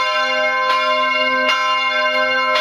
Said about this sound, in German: Wobei Graz auch anders kann, also durchaus majestätisch beim Grazer Dom. Den sehen wir von hier oben auch sehr schön, zwischen den Häusern der Altstadt so herausragen. Da hört sich das Glockengeläut schon gleich deutlich pompöser an.